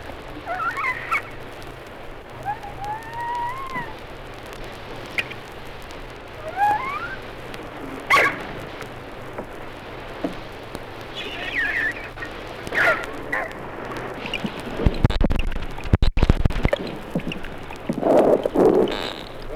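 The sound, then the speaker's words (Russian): Beluga sturgeon seizing food: scattered clicks and short squeaky, rising whistles, then a cluster of loud, low thumps and splashy bursts toward the end, with no voices present. “Звуки белуги при захвате пищи.”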